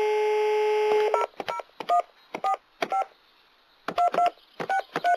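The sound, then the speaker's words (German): A steady dial tone is cut off by a quick series of mobile phone keypad tones, about a dozen short two-note beeps pressed in uneven bursts, clear with no voices. “Ihr habt doch nicht etwa vor, einen Goldverkäufer anzurufen?”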